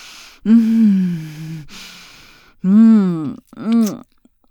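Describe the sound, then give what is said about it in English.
Heavy, labored breathing: three deep, drawn-out exhales voiced into low groans, with short breathy pauses between them and no words spoken. “Take some deep breaths for me.”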